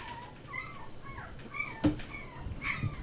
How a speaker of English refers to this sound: God damn. Those dogs are freaking me out.